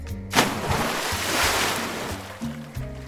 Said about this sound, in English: Splash! I jump into the ocean at 30 miles per hour.